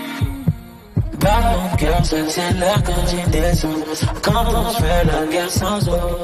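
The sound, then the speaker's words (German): A steady thumping heartbeat sound built into the beat at the end of a romantic rap song, low double thuds repeating under layered synths and percussion, loud, with a sparse quieter intro before the track kicks in. “Und wenn am Ende des Songs dann noch dieses Herzschlagen in den Beat eingebaut wird, dann ist das wirklich, dann ist das so Weltklasse-Niveau.”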